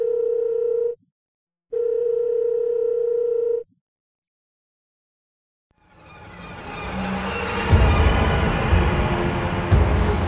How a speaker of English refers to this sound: I'm going to pull out my phone and try to call, was it Arden? Arden, yeah. Yeah, so you give Arden's phone number a call, and the phone in Brittany's hand begins to ring.